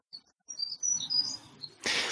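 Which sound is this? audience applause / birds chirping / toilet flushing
birds chirping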